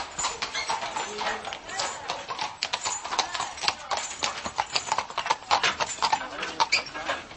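animal, horse hooves clip-clopping

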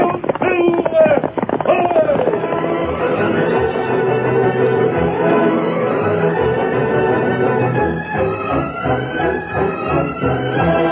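animal, thundering horse hoofbeats galloping

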